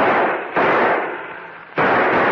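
gunshots

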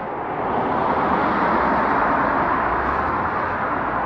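cars driving by

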